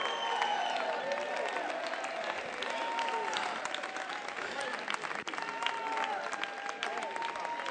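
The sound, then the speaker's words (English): An audience claps hands as people come forward to the front, a dense, continuous wash of applause for several seconds, steady and loud, with indistinct voices and cheering mixed underneath. “Just clap your hands all the way to the front.”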